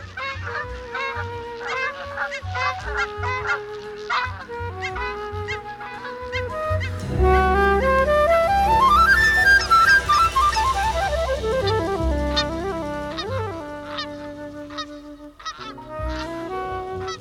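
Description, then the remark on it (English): A large flock of geese honks continuously and loudly along the Front Range, overlapping calls piling up into a dense, clamorous chorus that swells in the middle and stays busy throughout, with no voices. “So we have created goose nirvana here along the Front Range with our urban areas and our ponds and our golf courses and our wheat fields.”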